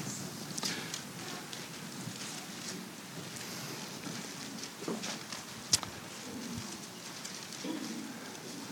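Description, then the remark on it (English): Many Bible pages rustling and flipping at once as a church audience turns to the book of John, chapter 20, a steady papery wash dotted with occasional crisp, sharp flicks and a few soft thumps, with no one speaking over it. “Boy, I love to hear those pages turn.”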